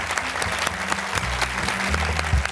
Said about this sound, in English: Please join me in applauding Damien.